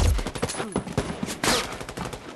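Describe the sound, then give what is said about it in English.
Rapid bursts of gunfire and explosions from a firefight in Iraq crackle through a narrow, tinny cell phone line, with sharp repeated cracks and a heavier booming blast, sounding compressed. “He drops his cell phone, but the line is still live, and you can hear the gunfire and the explosions on the other end of the line.”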